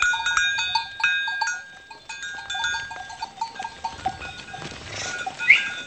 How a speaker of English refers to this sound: A shepherd herds flocks of sheep down Main Street, a dirt road that runs between stone huts where farm animals live on the first floor and families live upstairs.